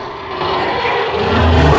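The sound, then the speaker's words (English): A person roars like a dragon, voicing the character Madam Dragon in a reading of a dragon story, a loud, rough, breathy rumble that holds steady and swells slightly over nearly two seconds. “Madam Dragon roars.”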